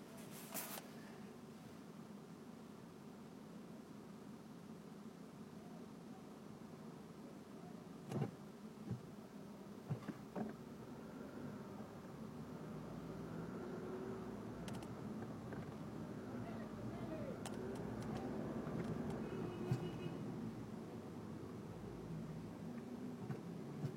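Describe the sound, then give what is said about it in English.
Street-side vehicle noise: a minivan backing up and a scooter pulling into a parking spot, with a steady low engine rumble, rising traffic hum and a few sharp clicks and knocks. “This minivan backing up, some kind of scooter trying to get into a parking spot.”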